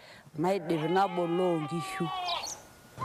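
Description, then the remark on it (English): A sheep in a flock being checked for health lets out a long, quavering bleat, fairly loud, then a few shorter, softer calls trail off with faint chirps in the background. “I then check on the sheep's health, and I tend to the sickly ones.”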